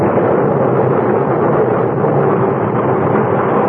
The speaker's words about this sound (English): We could still see the faint outlines of the ship when suddenly, without warning, a cloud of black smoke shot up from her bow. And within moments, a great explosion blew her apart from stem to stern.